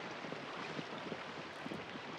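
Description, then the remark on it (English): A steady rush of a swiftly moving river fills the scene with a dense, unbroken hiss and gurgle, holding an even level throughout with no voices. “Elsewhere, Beth and Will ride up to a swiftly moving river.”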